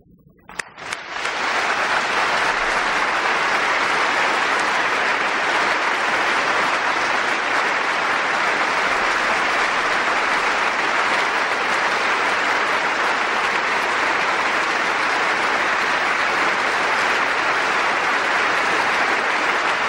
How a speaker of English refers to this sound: Now I invite you to set your hymnals down, and as our final corporate act of worship, let us worship and honor God by giving the applause to Him.